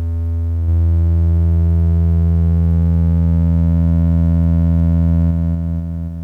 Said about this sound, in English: Wow, listen to that sine wave. Sine wave with some LED clipping.